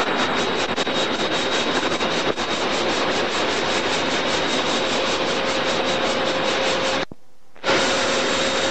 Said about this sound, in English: Now we just passed Pangbourne Station, heading towards Reading. There's a parcel train just passing me on the Down Main.